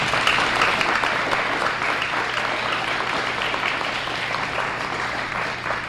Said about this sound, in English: A final round of applause for everyone this morning who participated in this event.